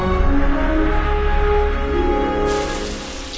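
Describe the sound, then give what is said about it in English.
Water splashes and patters steadily in a bath, a continuous wash of droplets and sloshing that eases slightly toward the end, with no voices. “How's the water? Perfect.”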